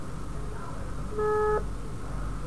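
A single short electronic ringing tone of an outgoing phone call to a friend sounds once, steady and mid-pitched, over a constant low background rumble with no talking.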